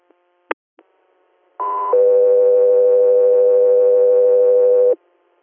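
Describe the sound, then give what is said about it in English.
A few short clicks, then a radio dispatch alert: a brief higher tone jumps straight into a long, steady lower tone lasting about three seconds, loud and clean with no talking. “3 AR, standby for tones.”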